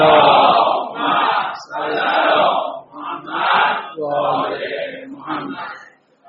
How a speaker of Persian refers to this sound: برای سلامتی و تشویق خودتون و تشویق جناب آقای دژاکام یه صلوات محکم بفرستید.